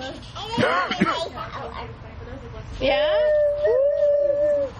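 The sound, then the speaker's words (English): A girl imitates a werewolf howl as Night Howler from Zootopia, howling at the moon: a few short, rising-and-falling vocal yelps, then a pause and a long, sustained, wavering howl, fairly loud. “Are you becoming a werewolf at night?”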